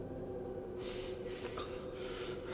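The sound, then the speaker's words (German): Heavy, rasping breaths hiss through the mouthpiece of an oxygen tank in quick succession, loud, with hurried gasping inhales over a steady low rumble. No one speaks. “Egal, erstmal atmen. Alles andere konnte warten. Ich lutschte an meinem Mundstück wie ein Säugling an der Sojamilchflasche.”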